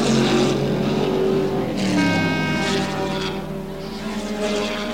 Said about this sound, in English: The top racing cars from all over the world, tuned to a T and being put to the test on a really tough course. Here they come again.